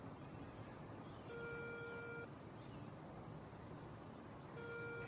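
A phone ringback tone: two long steady electronic tones, each about a second long with a pause between, sounding over a constant background hiss. No one speaks.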